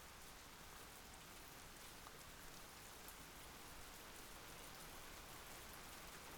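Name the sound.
steady rain falling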